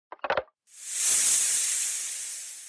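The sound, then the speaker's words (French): A taipan snake's hiss: a couple of quick raspy bursts, then a long, airy, high-pitched hiss that swells and slowly fades over about two seconds, with no talking. “C'est un serpent ! Il est connu pour être le plus venimeux au monde.”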